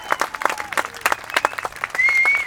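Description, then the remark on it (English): A crowd claps in a quick, uneven patter of overlapping hand claps, steady and fairly loud, with a few faint whistles or voices rising over the applause toward the end, clapping to get a fiddler and singer to come out into the heat and step dance. “And I think we might, if you guys clap loud enough, we might be able to convince her to get out into the heat in front of this thing and give us a few steps.”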